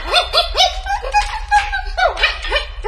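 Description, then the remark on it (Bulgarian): A dog barks in a quick, steady series of high, yappy barks, about a dozen in a few seconds, loud, with no other voices. “Това куче е ужасно глупаво!”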